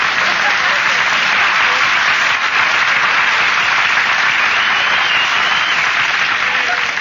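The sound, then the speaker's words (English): A crowd claps steadily and loudly throughout, a dense, continuous wash of applause from many hands that stays even in volume with no pauses. “Nobody was supposed to applaud there.”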